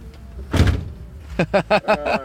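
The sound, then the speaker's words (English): The big, heavy door of a massive red Cadillac, bought at auction from America, shuts with one loud, deep thud. A voice starts talking moments later. “Oh, man, those big, heavy doors.”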